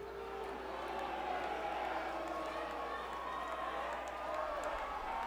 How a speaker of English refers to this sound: Are you booing Quebec?